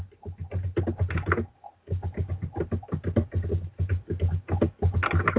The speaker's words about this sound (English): Who's typing?